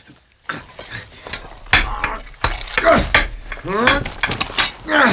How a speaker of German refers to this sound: Hey, was macht ihr da? Wir meißeln ein Luftloch.